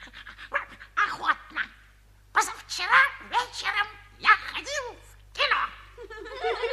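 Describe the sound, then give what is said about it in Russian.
A dog named Alberg pants and lets out a rapid series of close, breathy yips and whimpering vocal sounds in uneven bursts, with short pauses between them. “Пожалуйста, милый Альберг, не можешь ли ты рассказать нашим друзьям что-нибудь из собачьей жизни?”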